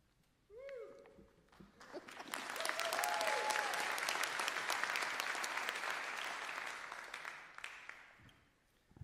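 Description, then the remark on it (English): An audience at a Republican party meeting bursts into loud, sustained applause after the presidential nominee is chosen, with dense clapping that swells quickly and holds steady for several seconds before tapering off. A few short whoops or cheers ring out near the start. “Sit down now. I've already applauded, right?”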